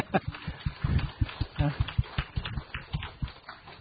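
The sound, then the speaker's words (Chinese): A church audience claps steadily in applause for the mothers standing up on Mother's Day, many hands producing a dense run of sharp, overlapping claps with a loose, uneven rhythm, fairly loud throughout. “我们鼓掌，为他们鼓励。”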